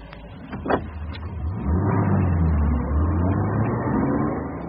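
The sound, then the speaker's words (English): A car pulls away: after a few brief knocks, a low engine note climbs in pitch as it accelerates, then settles into a loud, steady rumble with no talking. “Well, let me drive.”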